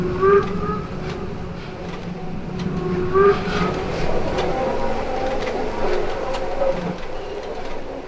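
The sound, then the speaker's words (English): A train on a bridge above a car rumbles steadily as it gradually slows toward a stop, with faint metallic whines rising and fading over a continuous low mechanical drone. No one speaks. “Bridge above the car, there's a train, stopping slowly.”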